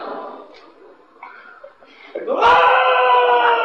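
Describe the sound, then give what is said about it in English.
A man's voice imitates a cry of pain: a few quieter strained vocal sounds, then a loud, sustained, high-pitched scream that holds strongly to the end. “Screaming.”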